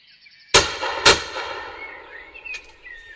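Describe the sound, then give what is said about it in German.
A loud rifle shot, fired by a hunter at a wildcat in the Spessart, cracks out, followed half a second later by a second sharp report, then a long fading reverberation with faint bird chirps in the background. “Es war ein weitgerechter Schuss, auf den der Jäger stolz sein kann.”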